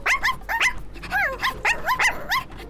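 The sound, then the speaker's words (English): A puppy named Blackie yips and barks in a quick, high-pitched string of about eight short, bright calls, fairly loud, with no voices. “What a nice puppy you are.”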